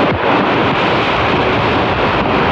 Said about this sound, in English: The sound of wind, hail, and rain that pummeled the Dallas-Fort Worth area last night. The storm killed at least 8 people.